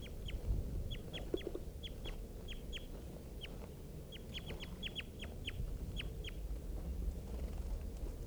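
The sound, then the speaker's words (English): Just-captured birds calling in quick, repeated high-pitched chirps, coming in irregular bursts throughout, over a steady low rumbling background noise; no one speaks. “Just caught one of the birds.”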